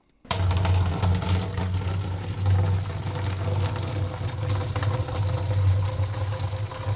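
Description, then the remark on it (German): Boiling water pours steadily from a brew kit into a beer-brewing bucket while 20 litres of beer are being home-brewed, a continuous rushing splash with a low hollow drone underneath, lasting several seconds without pause and with no voices. “Ein Spitzengeräusch ist es, wenn Wasser, kochendes Wasser in einen Bierbraueimer gefüllt wird von einem Brewkit.”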